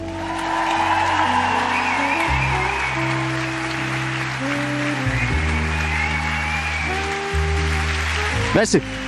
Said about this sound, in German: begrüßen Sie mit einem donnernden Applaus den einzig wahren Simon Moser